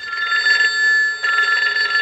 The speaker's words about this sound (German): Und da die Telefon ist natürlich auch etwas Spezielles. Wenn wir jetzt hier mal hören, wenn es läutet.